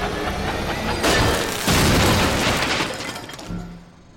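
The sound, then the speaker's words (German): A loud, crunching explosion with shattering debris as an overloaded ventilation fan in an air duct explodes in a video game, bursting in around one second and again near two, then a rumbling tail that fades out over several seconds, with no voices. “wir halt in den Wänden auf die elektrischen Leitungen, auf die Schaltkästen, aktivieren sie und überlasten letzten Endes den Ventilator in dem Belüftungsrohr. Und dieser explodiert dann und eröffnet uns einen neuen Weg.”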